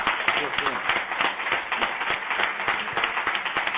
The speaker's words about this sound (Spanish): Bueno, pues mira, la responsable es la que está allí detrás de ti, que es nuestra directora, así que si queréis le damos pues un aplauso.